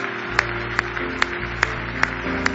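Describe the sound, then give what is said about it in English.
An audience claps hands together in praise of the Lord, in steady unison, six sharp beats roughly evenly spaced, over sustained organ-like music with no one talking. “Give the Lord a great big hand clap of praise this morning.”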